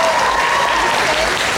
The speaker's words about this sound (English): A big round of applause for East and West for their amazing performance.